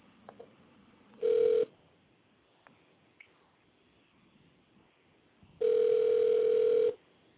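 Ringback tone of an outgoing phone call: a brief steady electronic buzz, then after a quiet pause a longer ring lasting over a second, both mid-pitched and fairly loud over faint line noise.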